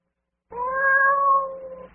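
A single long, drawn-out cat meow rises clearly out of silence, fairly loud, holding a steady wavering tone before fading at the end, with no one talking.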